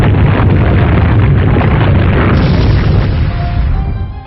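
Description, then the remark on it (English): A video game earthquake attack effect, the move Earthquake used by Pantherfoot against Foe Simulon in a battle: a loud, dense rumbling roar with heavy low-end booming that sustains for about four seconds before tapering off. No voices. “Pantherfoot used Earthquake.”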